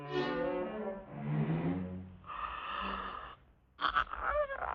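A cat stops in a doorway and yawns in a long, drawn-out stretch, a breathy, groaning sound that rises and sags over a few seconds, then a brief pause and a few small squeaky chirps.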